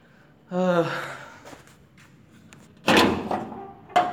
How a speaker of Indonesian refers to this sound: Itu pintu ribut kali, bentar ya. Angin kencang. Lagi musim hujan.